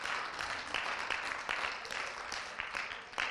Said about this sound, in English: Let's give a big cheer for Jesus, you know? So cool.